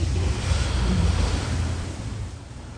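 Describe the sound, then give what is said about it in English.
Steady rushing of shallow water and gentle waves, a broad continuous wash with some low wind rumble, moderately loud, easing slightly toward the end. No voices. “But it's also, so as you say, just wading in that shallow water, and feeling the current on your legs, yeah, that's good too. He's pointing out to the sound of that.”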